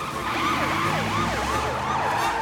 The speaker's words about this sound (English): The police car gives chase, and the soccer mom chases the police car.